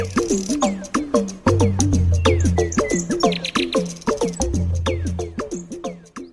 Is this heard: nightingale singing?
yes